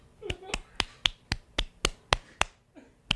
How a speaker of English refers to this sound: Staffers. Yeah, they're staffers. Probably one of the claps that you heard was his feet.